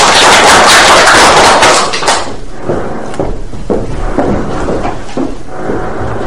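An audience bursts into dense, loud applause for about two seconds, then it thins out into a scattering of individual claps that gradually die away. No one speaks.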